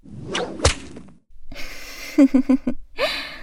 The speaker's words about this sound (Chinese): 这个鞭子就是为了你准备的呀，喜欢吗？还真是个怂货呢，这都还没打到你身上，发什么抖呀？